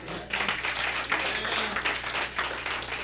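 Women in an audience clap together in a dense, steady burst of applause. It stays fairly loud and even throughout, with no voices rising above it.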